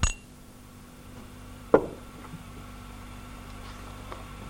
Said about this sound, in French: Il versa quelques gouttes de vin dans des verres de poupée et ils trinquèrent tous les trois à la santé de la torpedo.